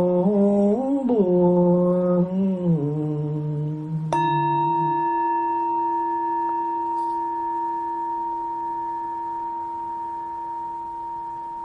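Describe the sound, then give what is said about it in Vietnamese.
A Buddhist temple bell is struck once, its deep ringing tone humming on steadily to the end. Before the strike, a voice chants a long sliding melody that overlaps the first moment. “Nguyện tiếng chuông này vang pháp giới, xa xôi tâm tối mọi loài.”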